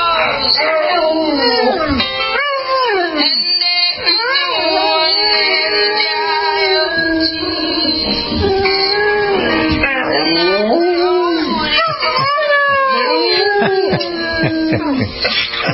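A dog howls along to a song, its long wavering cries sliding up and down in pitch over the music, loud and close throughout.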